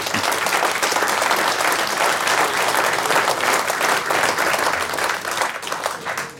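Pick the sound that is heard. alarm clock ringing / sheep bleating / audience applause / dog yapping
audience applause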